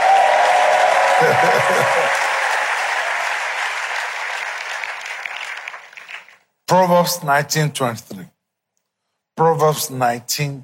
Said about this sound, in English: If you are clapping, clap very well.